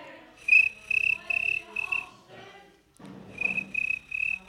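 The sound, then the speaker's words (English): A voice imitates cricket chirping: a high, shrill trilling in steady pulsed bursts, fairly loud, breaking off briefly midway before the chirping resumes with the same rhythm. “For example, I can speak fluent cricket, so that's basically.”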